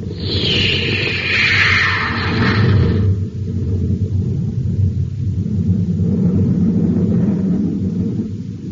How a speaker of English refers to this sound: Stand by for blast off. Close ports. Close ports. Fire jet. Fire jet. Up ship and away.